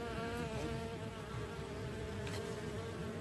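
A bee buzzes steadily in flight, a continuous droning hum that holds even in loudness for a few seconds with no voices.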